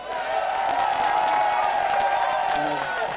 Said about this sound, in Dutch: Dus mag ik alsjeblieft een heel hard applaus voor onze advocaat